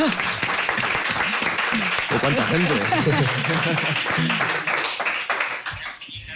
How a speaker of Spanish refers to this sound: Un aplauso, ¿no?